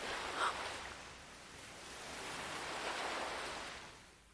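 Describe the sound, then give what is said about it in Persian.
Steady ocean surf at night washes in, a soft broad hiss that slowly swells and fades again, with no voices. “موقع شب به دریا زل نزن، میکشتت داخل خودش.”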